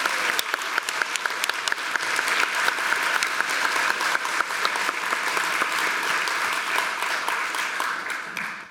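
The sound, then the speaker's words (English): An audience claps steadily for a bassist for several seconds, a dense, even wash of many hands with sharp individual claps poking through, holding strong before tapering at the very end. “One more big round of applause for our bassist”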